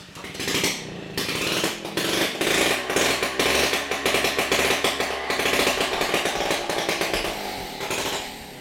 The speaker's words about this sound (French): En plein essai de mobylette là. Une mise au point là, sans pot d'échappement, mais on teste quand même. Ah oui, ça me rassure, pas pot d'échappement, parce que vu le bruit que ça fait.